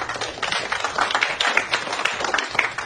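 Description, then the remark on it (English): An audience applauds in approval of a guest's remark, in a dense, steady wash of overlapping claps that holds at a fairly even loudness for about three seconds, with no clear voices on top. “No, they're clapping that they think you got it right.”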